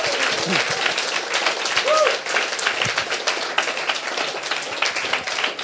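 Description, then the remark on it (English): A crowd bursts into sustained, dense applause with scattered shouts and whoops rising above it, the clapping steady and loud throughout with no pause; the audience is clapping and shouting for God. “Now I want you to give him just the biggest applause ja nyt and haluan, shout että you can muster.”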